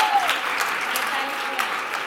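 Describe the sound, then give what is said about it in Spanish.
Steady audience applause, a dense wash of many hands clapping at a constant level throughout, with a brief voice heard at the very start, as a school student is called up onto the stage. “¡Un aplauso!”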